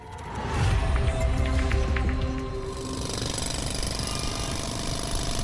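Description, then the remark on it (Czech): Loud, continuous roadwork racket on the finish straight of the Masaryk racing circuit: rapid jackhammer pounding over the grinding drone of heavy milling machines stripping the asphalt, steady throughout, with no voices. “Ovšem za to ten asfalt i se zbíječkami tedy pořádně strouhali.”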